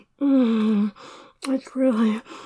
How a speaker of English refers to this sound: Wow, you're making such cute noises. The way you whimper. Moan like that,